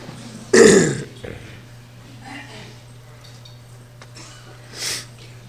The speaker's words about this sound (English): Clear your throat. Blow your nose.